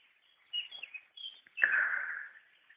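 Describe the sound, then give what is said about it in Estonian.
Nearby songbirds, an early nightingale and a chaffinch, sing in bright bursts: a few quick high chirps and whistles, then a louder rattling trill that fades away. No one speaks. “Ma kuulan varajast ööbikut. Ma kuulan metsinti siin samas läheduses.”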